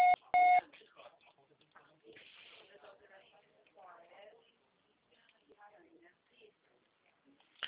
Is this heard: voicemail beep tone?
yes